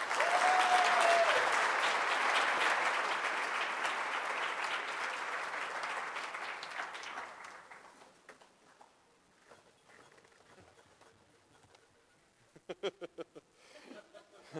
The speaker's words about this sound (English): I think that we all applauded and I came all the way to the stage.